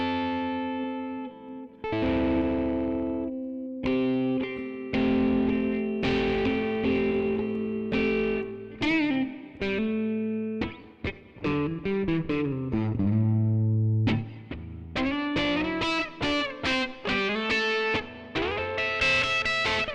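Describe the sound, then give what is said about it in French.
An electric guitar plays a steady run of melodic notes and chords through a reverb effect, each note ringing out with a lingering wash, fairly loud, with no voices. “Mettrais-tu un petit peu de réverb ? Eh ben ouais ! C'est parti !”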